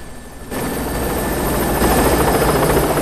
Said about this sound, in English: An armed policeman on the rooftop sees the chopper lift off and soar away.